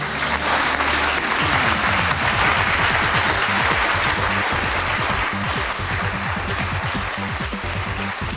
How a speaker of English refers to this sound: the length and sincerity of the applause in a room full of normally cynical aviation reporters